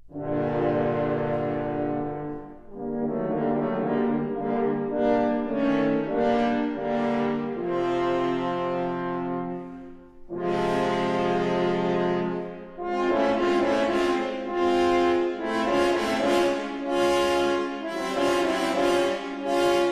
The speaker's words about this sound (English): The wolf is represented by three French horns.